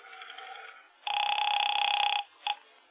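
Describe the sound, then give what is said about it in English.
A telephone call to a police precinct headquarters rings over the line: a fainter buzzing ring, then a long, loud, steady ring and a short clipped burst at the end, with no talking. “I'll make one call to the Irish Clubhouse.”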